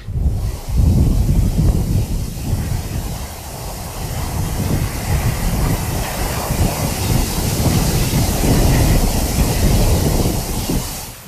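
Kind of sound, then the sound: nature, wind blowing outdoors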